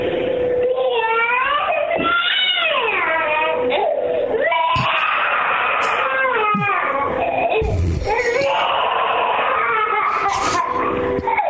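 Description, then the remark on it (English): A toddler boy cries and yells loudly in a morning voice note, a continuous tearful wail with rising and falling pitch and brief catches of breath, lasting the whole time. “He picked red shorts to wear and is now yelling and crying because he wants pants.”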